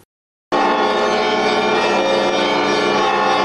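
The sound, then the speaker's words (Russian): Church bells ring loudly in a dense, continuous peal of overlapping tones at the Alexander Nevsky Lavra in Saint Petersburg. A procession carrying the ark with the relics of Saint Nicholas moves to the main entrance of the Holy Trinity Cathedral. The peal starts abruptly after a brief moment of silence and sustains without any voices. “Под звон колоколов крестный ход с ковчегом с мощами святителя Николая проследовал к главному входу в Свято-Троицкий собор.”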